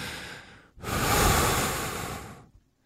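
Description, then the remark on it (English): Breathy panting from a woman on a beach, a short gasp followed by a longer heavy exhale, over a steady wash of ocean surf. No one speaks. “It does sell from Lady on the Beach panting over the SEC.”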